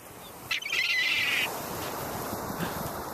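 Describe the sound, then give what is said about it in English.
A single shrill, drawn-out seagull call rings out for about a second over a steady low background hiss, then stops, leaving only the faint ambient noise. “So whether you are using a chainsaw or listening to seagulls, enjoy the Memorial Day weekend.”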